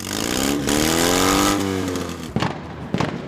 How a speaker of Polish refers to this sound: Polskie prawo zupełnie nie ogranicza modernizowania samochodów i motocykli w taki sposób, żeby one wydawały, nazwijmy to delikatnie, dużo głośniejsze dźwięki.